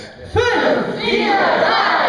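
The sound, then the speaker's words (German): An improv theatre audience in Hildesheim, being warmed up by the troupe Schmidts Katzen, bursts into a loud, sustained roar together after a brief quiet moment, many voices bellowing and whooping at once and holding the shout steadily for nearly two seconds. “Lass mal laut und kräftig mitbrüllen.”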